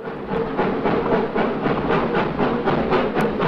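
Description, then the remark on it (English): A steam locomotive approaching a station chugs along with a quick, steady rhythm of hissing chuffs over a low rumble, holding a fairly even loudness throughout with no voices. “Sheriff Mitchell looks out of his window when he hears the steam locomotive.”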